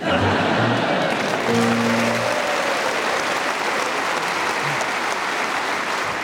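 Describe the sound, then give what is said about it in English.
Sustained audience applause, a dense steady wash of many hands clapping at an even loudness for several seconds, with a few brief low tonal blips underneath. “And still you clap.”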